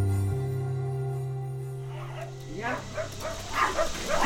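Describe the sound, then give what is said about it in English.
A steady low hum gives way to dogs barking in a quick, uneven series of sharp barks, moderately loud, picking up toward the end. “Do those dogs know you?”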